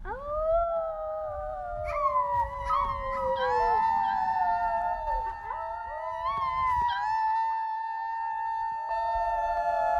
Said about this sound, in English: From Bellevue to Ketchum, Blaine County residents stood howling outside their houses. Why? To give thanks. Thanks to the frontline workers, including the nurses, the doctors, grocery store cashiers, and the mailmen.